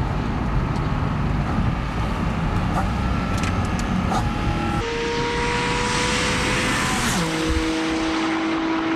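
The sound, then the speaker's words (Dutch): A Porsche 718 GT4 RS (Cayman) sports car engine revs loudly, its high whine holding steady then dropping sharply in pitch twice, like gear changes, with no voices. “Porsche 718 GT4 RS.”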